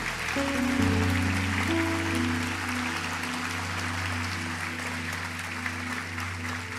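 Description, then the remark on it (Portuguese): A church audience applauds loudly for God during a Christian sermon, a steady, dense wash of clapping that holds for several seconds, with sustained low keyboard chords droning beneath it and no talking. “Você pode aplaudir bem forte ao nosso Deus.”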